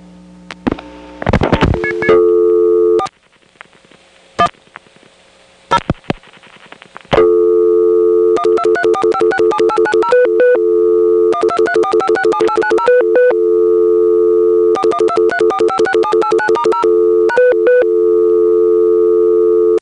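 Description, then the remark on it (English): After a few clicks and brief tone bursts, the second dial tone of a Bell system telephone test ringback line hums steadily while clusters of quick touch-tone beeps are keyed in repeated rhythmic runs to test a touch-tone dial, clear, with no voices. “when you call 410, you get a second dial tone that can be used to test your touchtone dial, as you just heard”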